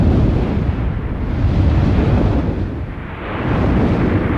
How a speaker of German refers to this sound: Denn im April 1815 erwacht der Tambora mit Macht. Seine heftigen Explosionen sind mehr als 1000 Kilometer weit zu hören.